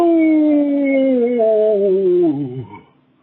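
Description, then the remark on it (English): A person imitates a coyote howl in a coyote calling contest: one long, loud, close wail that slides steadily downward in pitch before breaking and trailing off into quiet. “And the winner of the Wind inaugural coyote calling contest is...”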